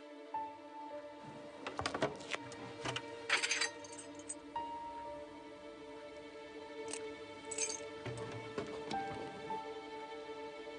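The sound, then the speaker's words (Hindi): A bunch of keys, including the key to a safe, clinks and jingles in someone's hand, with short irregular metallic rattles over a steady low background hum. “वो तुम्हारे हाथ में क्या है, तिजोरी की चाबी नहीं है?”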